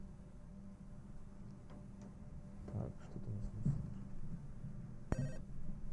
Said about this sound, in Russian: Радиослушатели, у нас поступил первый телефонный звонок. Говорите вы в прямом эфире.